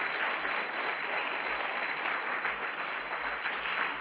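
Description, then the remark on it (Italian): Sustained applause from a crowd for the Lord Jesus, a dense, steady wash of many hands clapping at an even loudness for the full four seconds, with no voices rising above it. “Voglio sentire un applauso al Signore Gesù.”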